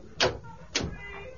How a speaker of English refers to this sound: Here's the door.